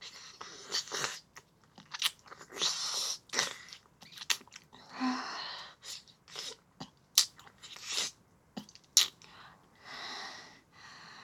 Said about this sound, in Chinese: 咸咸的东西，不管怎么舔，都舔不完呢。